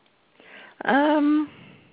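A single loud cough bursts out and turns into a strained, voiced gagging sound lasting about half a second, with quiet background noise before and after.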